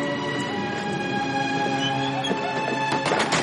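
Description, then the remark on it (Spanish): A steady, droning mechanical hum with several tonal layers runs throughout aboard an airliner before takeoff, then the heavy aircraft door is closed by a crew member with a few sharp metallic clunks and rattles near the end. “Ronnie cierra la puerta de la aeronave.”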